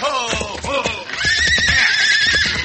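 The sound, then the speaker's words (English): A horse gives a loud, shrill whinny that wavers and descends in pitch, followed by snorting and agitated breathing with a few faint hoof sounds underneath. “Head off that horse, man.”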